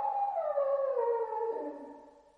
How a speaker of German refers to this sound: Hören Sie. Schon wieder. Was? Der Hund? Die Ziehharmonika macht ihn verrückt. Nein. Sie heulen heute schon den ganzen Tag.